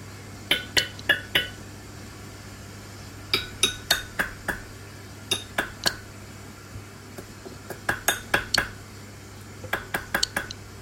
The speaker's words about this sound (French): Donc ça c'est Pipa Pipa. C'est donc un amphibien assez répandu dans le bassin amazonien en général. Donc c'est une grenouille qui est totalement aquatique, qui sort jamais de l'eau.